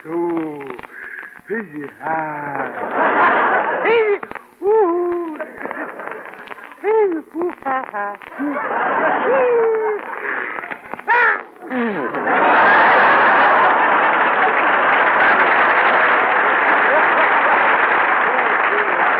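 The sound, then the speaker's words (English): A voice performs an exaggerated operatic sneeze: a string of swooping, sung vowel wails rising and falling in pitch, building to a long, loud, breathy burst of noise. “Fellas, first we will take the operatic or vowel sneeze.”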